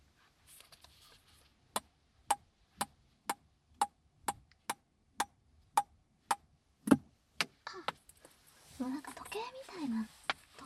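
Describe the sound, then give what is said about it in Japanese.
A small ball taps out a steady, rhythmic run of sharp, crisp clicks, about two per second, like a ticking clock, before fading into quiet rustling and soft breathy voice. “秒針みたいな音っぽい感じでいいかもしんない。”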